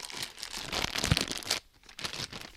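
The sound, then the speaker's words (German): A plastic bag of white mushroom spawn is pulled open with crisp crinkling and rustling, a dense burst for about a second and a half, a brief pause, then more crinkling. No one speaks. “Die Tüte wird geöffnet und das sind so schöne weiß, ja, man könnte sagen, so wie verschimmelt sieht's aus, ne?”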